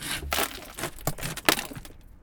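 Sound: glass being smashed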